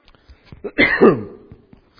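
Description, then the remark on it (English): A single harsh, throaty cough with some throat clearing, fairly loud, after swallowing too much of a cough drop at once, preceded and followed by small faint clicks and breaths. “I got a cough drop in and I swallowed too much at one time.”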